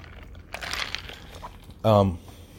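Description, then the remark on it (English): A drink being sipped, with soft slurping and crinkling noises, then a brief loud voiced exhale like a satisfied "ahh" right afterward. “Let me get another sip of this.”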